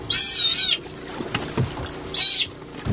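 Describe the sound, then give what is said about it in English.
A sea otter being captured near the village of Cake gives two shrill, wavering squeals, the first long and the second shorter, over a low background of lapping water and knocking boat noise. “That's a sea otter being captured last spring near the village of Cake.”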